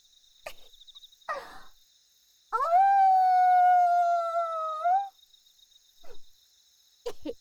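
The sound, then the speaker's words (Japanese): A single long, drawn-out howl at a bright moon at night rises quickly and holds a steady pitch for a few seconds before trailing off, set against a constant thin buzz of night insects and a few brief, faint animal sounds. “なあなあ、一回だけ吠えてもいいか。こんな綺麗な月を見てたらなんだかうずうずしてきたぞ。”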